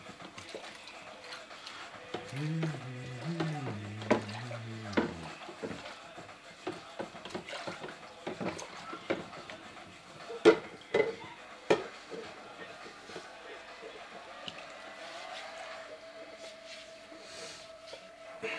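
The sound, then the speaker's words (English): Dishes being washed by hand clink and clatter in a sink, with scattered sharp knocks of plates and utensils over a steady wash of running water; a voice briefly hums or murmurs near the start. “I like doing my dishes and talking to y'all.”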